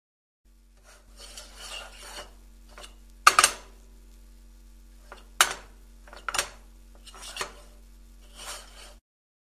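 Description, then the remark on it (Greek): A metal frying pan is handled and scraped, with scattered rasping and rubbing sounds punctuated by four sharp clanks, fairly quiet, with no speech. “Τηγάνι.”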